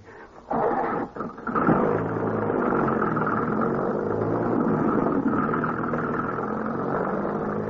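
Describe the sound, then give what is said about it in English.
A car engine catches after a brief sputter, then roars into a steady, loud running drone that holds without fading, as the car pulls off under power to chase another car. “Mount Devil Wagon at once, son. Must find messenger who collected payment.”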